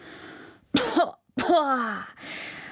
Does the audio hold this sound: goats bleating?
no